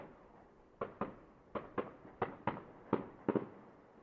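Fireworks popping in an irregular series of about ten sharp bangs, some in quick pairs, each trailing into a soft echo over low background rumble.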